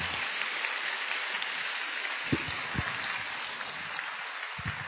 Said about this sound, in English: Thank you, Ajahn Brahm. I think let's give him a round of applause for the wonderful talk tonight.